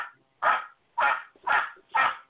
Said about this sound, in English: Sounds like Mitch. Sounds like Mitch is barking. I don't think that's Mitch, brother.